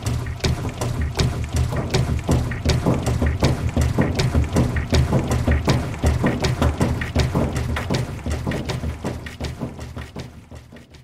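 Rhythmic music made entirely from washing machine sounds: steady mechanical clicks and ratcheting thumps repeat in a tight, dense pulse over a low rumbling drone, loud, with no voices.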